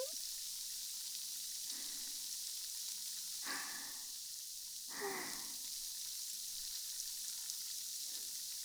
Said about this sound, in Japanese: もっとシュワシュワ聞こうね。炭酸ってなんでこんなに気持ちよさそうなんだろう。ちっちゃい泡が水面に浮いて弾けて、パチパチ、シュワシュワってなるの、いいよね。